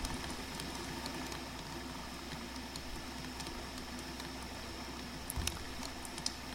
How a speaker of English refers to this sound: For those of you listening tonight, I'm coming to you live from the mountains in the middle of a torrential rainstorm in the wilderness. You can probably hear the rain outside right now. We've got some crickets, the rain,